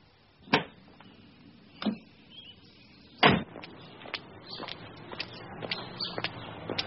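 A car arriving with a passenger pulls up to a low rumble, then three heavy thuds of its doors ring out over several seconds, followed by a scatter of lighter clicks and knocks, with no voices.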